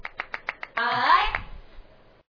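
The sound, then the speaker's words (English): A lone person claps about six times in a quick, even rhythm, sharp and moderately loud, then a man starts talking as the clapping stops. “Oh man, I'm clapping by myself now.”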